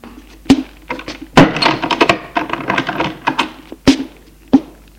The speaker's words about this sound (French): Et il ferme la porte.